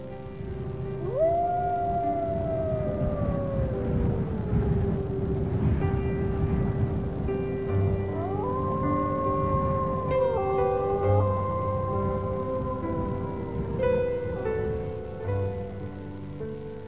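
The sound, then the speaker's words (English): Several wolves howl together in long, gliding tones that rise and fall, overlapping in a layered chorus over a steady rushing background, with no talking. “he said, listen for the howl of the spiritual brother, the wolf.”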